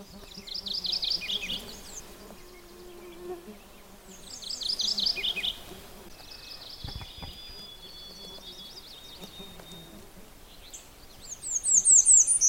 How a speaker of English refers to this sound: Unfortunately, with the redstart, that isn't the only song he sings. That one's fairly recognizable, but he sings a whole bunch of variations, so that's a little harder.